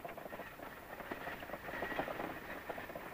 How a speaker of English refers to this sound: Black horses pulls the coach into the drifting gray fog.